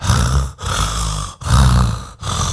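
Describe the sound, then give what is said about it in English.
A deep, loud monstrous roar, the breathing of the monster Agasura, repeats in three or four heavy breathing surges, each growling blast separated by a brief pause, rumbling with no talking. “There was a loud noise, the breathing of Agasura.”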